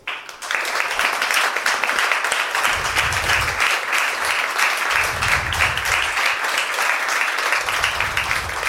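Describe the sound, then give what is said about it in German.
Sustained applause from an audience, a dense, steady wash of many hands clapping at constant loudness for several seconds, with low rumbling swells underneath and no one speaking. “Applaus.”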